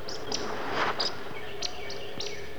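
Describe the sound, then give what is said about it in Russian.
Two woodcocks roding at sunset over forest clearings, passing very close: several sharp, high squeaky calls and croaking calls repeat about every half second, over a soft evening background hum with no one speaking. “Длинноносые птицы летят с хорканьем и цыканьем.”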